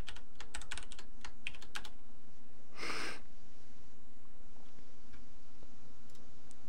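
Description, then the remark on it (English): A quick burst of computer keyboard typing as someone types a message to Christopher Nemelka, then a brief breathy puff. After that come a few scattered, quieter keystrokes over a low steady hum. No one speaks. “currently typing a message to Christopher Nemelka.”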